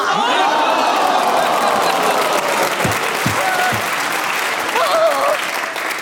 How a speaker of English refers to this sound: Round of applause from the audience, basically, who are keeping internal time, 51 seconds on a perfect disguise. Beautifully done.